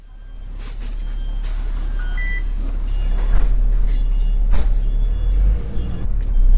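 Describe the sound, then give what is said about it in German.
A bus in Taipei, Taiwan, running from a metro station to Yangmingshan National Park, rumbles with a heavy, steady low drone and passing traffic noise, while a few short electronic beeps chirp briefly over it. No one speaks. “Von vielen U-Bahn-Stationen im Norden Taipehs fahren Busse direkt zum Yangmingshan-Nationalpark.”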